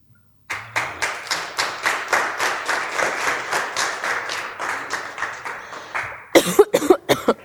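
Steady, rhythmic clapping at roughly three beats per second runs for about six seconds, loud and even, then breaks into a few short, harsh voiced bursts at the end.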